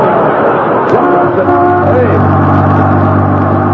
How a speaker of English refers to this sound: that's a Los Angeles bus. What's it doing up here in Alaska? It must be the bus that runs to the Los Angeles city limits.